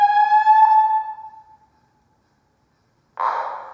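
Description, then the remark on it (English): A loud, buzzy electronic alarm siren blares steadily in an emptied senate chamber, cycling for 14 minutes after the room is empty, then rings out and fades into silence, before a brief burst of harsher noise starts up again. “After the room is empty, the alarm continues to blare for 14 minutes. I know this because we have every single cycling of the electronic siren recorded.”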